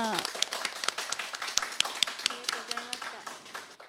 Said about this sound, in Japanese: どうぞ皆さんに拍手をお送りいただきたいと思います。ありがとうございました。